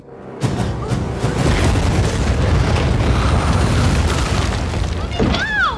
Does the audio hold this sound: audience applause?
no